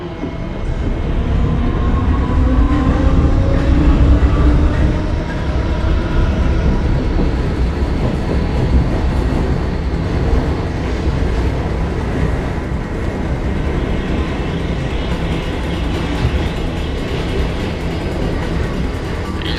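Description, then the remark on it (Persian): A subway train rumbles steadily along the rails, a loud, continuous low roar with rattling and faint metallic squeals rising and falling over the whole stretch, no voices present. “داره میره سمت مترو.”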